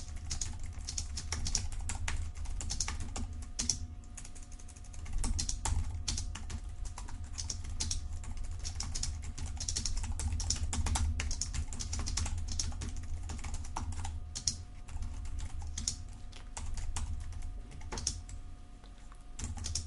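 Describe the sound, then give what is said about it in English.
Steady, rapid typing on a computer keyboard goes on throughout while programming, a dense patter of key clicks with brief pauses, accompanied by a low background hum and no talking. “So what I'll do is just start typing.”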